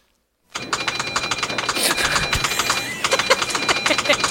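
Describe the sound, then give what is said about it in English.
A word processing program's error noise as a girl types her letter of resignation at school: a thin, steady high electronic tone sounds over rapid, continuous clattering of keys, with no voices. “whatever you're doing, stop, because that's obviously an error noise.”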